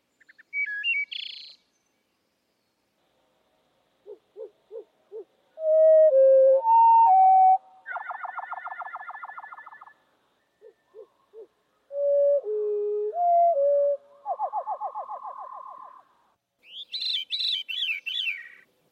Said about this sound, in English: He was really interested in birds, and he made these recordings of wood thrushes and related species. So there's veeries as well as wood thrushes. And they're heard at normal speed and then at slow speed.